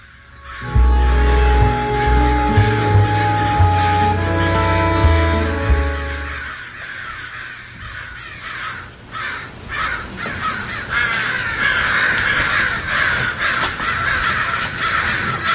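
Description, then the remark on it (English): A murder of crows caws loudly and repeatedly, many harsh calls overlapping in a noisy chorus, with a deep low rumble underneath during the first few seconds. “Okay, so this is a murder of crows.”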